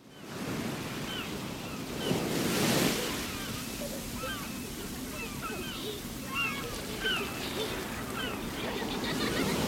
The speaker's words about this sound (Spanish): Ruge la mar embravecida, rompe la ola desde el horizonte. Brilla el verde azul del gran Caribe con la majestad que el sol inspira.